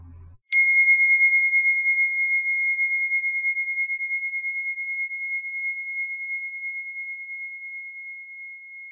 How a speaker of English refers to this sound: As the sound of the bell dissolves, begin to bring attention again to your calming anchors, your breath, your feet, your seat.